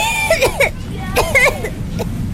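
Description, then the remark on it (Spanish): A child coughs in short, hoarse fits, several voiced bursts in quick succession, then a pause before another round, fairly loud over a faint low background rumble. “Por más historias sin tos.”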